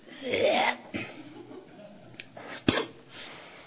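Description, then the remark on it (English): A man's voice imitates a raspy throat clearing, a rough gravelly rumble followed by a couple of short harsh bursts and a sharp spitting sound, fairly loud with no talking. “Clearing his throat again.”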